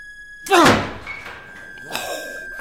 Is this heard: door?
yes